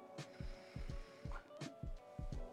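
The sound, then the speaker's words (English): Water rumbles and gurgles through a glass dab rig in a quick series of low, throbbing bubbles, steady for a few seconds, with no one speaking. “Really smooth purr and rumble. Feel all that water moving, but you're not doing any work.”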